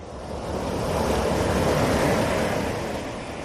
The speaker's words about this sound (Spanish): Así que vamos a pasear. Vamos a caminar junto a las olas que mueren en la orilla.